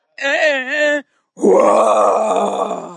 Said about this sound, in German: Und eigentlich, glaube ich, mag er vor allem den Schrei. Das Lied fängt an.